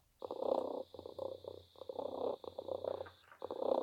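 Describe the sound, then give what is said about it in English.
A cat purrs in steady, rumbling pulses that swell and ease in a loose rhythm, with a faint high-pitched electronic whine holding steady underneath. “I think the dog's getting jealous that you're still with the cat.”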